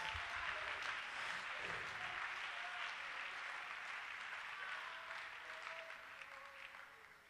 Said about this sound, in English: Come on, clap your hands. Somebody help the preacher today.